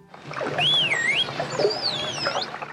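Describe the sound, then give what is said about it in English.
A computer-generated whistle for "ball", produced by pressing a keyboard button, sweeps up and down in pitch, followed by a dolphin named Delphi imitating it with a similar rising-and-falling whistle, over a steady hiss of water. “After the computer-generated whistle, you hear Delphi imitate it.”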